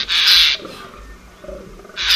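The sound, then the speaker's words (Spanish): Fallow deer groaning in the rut in a dehesa: two loud, rough, rasping bursts, one opening and one closing, with a quieter stretch of low grunting sounds between them. “Siguiendo con las voces rotas, arrastradas, los arrendajos van dejando la dehesa llena de R's y J's, y no desentona su voz contra los ronquidos que se oyen al fondo de los gamos roncando el celo.”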